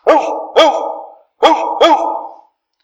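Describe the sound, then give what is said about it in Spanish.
Deep, loud barks of big dogs, four in all, coming in two quick pairs of woof-woof with a short pause between the pairs. “Y los grandes.”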